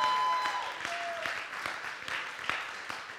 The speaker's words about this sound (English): Everybody give God a hand clap of praise today.